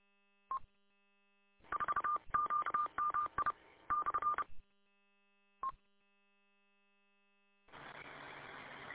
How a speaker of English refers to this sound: Beep, beep, beep, beep, beep, beep, beep. All right, it's working